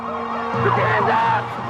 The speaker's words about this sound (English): The thief decides to use the truck's four-wheel drive, and he barrels up a steep, muddy hill. Officers can only take strategic positions and pray the truck doesn't have enough power.